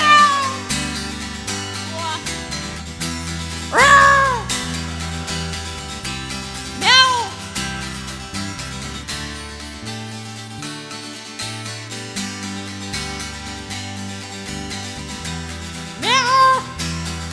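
Three drawn-out, loud cat meows sound at spaced intervals over a steady instrumental music backing, with the last one near the end.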